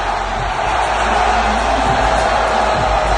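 A packed arena crowd in Miami cheers in a loud, unbroken roar, a dense wash of voices that holds steady for the full few seconds with no pauses or distinct words.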